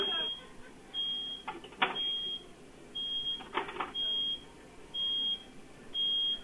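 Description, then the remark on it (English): A fryer timer beeps in steady, evenly spaced high-pitched tones, repeating about every second and a half, signalling fries left in the fryer, over a noisy background with a couple of brief clattering bursts in between. “If it's beeping, they need to do whatever it is to make it stop. Pull the fucking fries out of the fryer, lady.”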